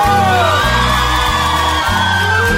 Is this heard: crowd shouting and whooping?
yes